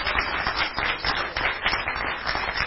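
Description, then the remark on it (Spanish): An audience at a church service applauds the Lord, many hands clapping together in a dense, continuous wash of sound for a few seconds, with no clear voices over it. “Dale un aplauso al Señor, porque estás edificado sobre buenos cimientos.”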